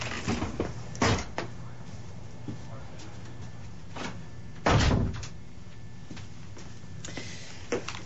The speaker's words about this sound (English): Just hold on, I have to close the door because I think we get some noises from the adjacent offices.